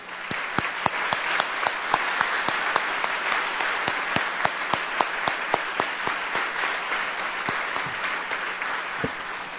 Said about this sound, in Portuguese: O que que nós podemos fazer se não bater palmas para Jesus?